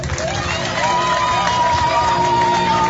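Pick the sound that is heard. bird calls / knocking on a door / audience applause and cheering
audience applause and cheering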